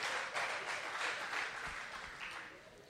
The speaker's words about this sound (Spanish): Es la palabra de Dios. Voy a dar un aplauso a la palabra de Dios.